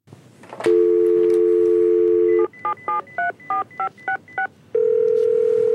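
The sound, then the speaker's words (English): A loud telephone dial tone hums, then seven quick touch-tone keypad beeps are dialed in a steady rhythm to call an automated movie listings phone line, followed by another steady electronic tone on the line. “Well, let's play a little bit of movie phone here.”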